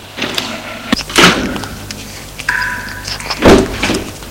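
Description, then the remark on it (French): A door opens with a couple of heavy thunks and a brief creaking, scraping sound, followed by a final louder knock as it settles; no one speaks. “La porte s'est ouverte et apparaît un jeune garçon dans les 15 ans.”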